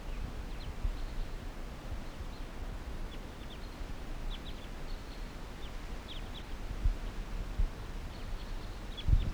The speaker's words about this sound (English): And there's a wild crossbill here. What about the wild bird? Several wild birds. Type 2.